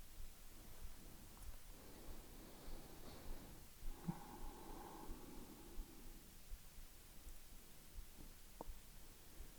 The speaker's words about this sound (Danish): I starter med at tage en dyb vejrtrækning ind igennem næsen, ned i maven og pust langsomt ud.